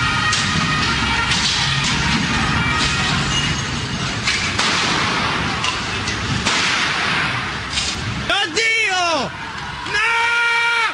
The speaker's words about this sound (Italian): Lì, in piazza Alimonda, una jeep dei carabinieri resta intrappolata tra le barricate, fatte di cassonetti. E dal fuoristrada partono due colpi di pistola.